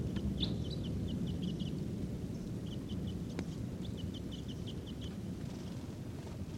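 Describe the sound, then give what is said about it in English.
Wild birds in a tree in the middle of a corral call in quick runs of short, high chirps, coming in several bursts with brief pauses, fairly faint over a steady, loud low rumble of wind noise. No one speaks. “And they're not calling as much.”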